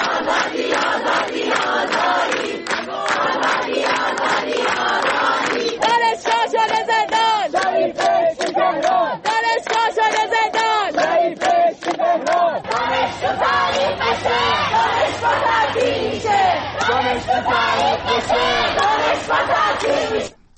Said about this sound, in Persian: در برخی دانشگاه‌ها از جمله در دانشگاه علامه راهپیمایی اعتراضی و سردادن شعارها از بامداد سه‌شنبه آغاز شده. دانشجوها تو زندان شریف بهشتی تهران از جمله شعارهایی است که از دانشجویان دانشگاه علامه شنیده می‌شوند.